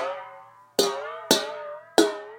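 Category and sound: household object, dishes clinking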